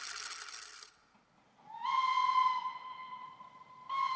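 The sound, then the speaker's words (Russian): A steam locomotive whistle on a railway in the Netherlands in 1845 gives a long, loud, steady tone, rising into its pitch, with a burst of hissing steam before it and another short blast starting at the end. “Мы стоим около железной дороги в Нидерландах в 1845 году.”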